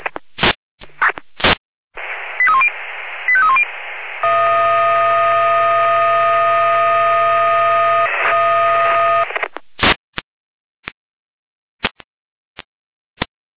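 Hamburg fire brigade radio alerting tones for a garden shed fire in Dumburg: a quick run of short pitched beeps, then a loud, steady multi-pitched tone held for about six seconds, framed by sharp radio clicks before and after.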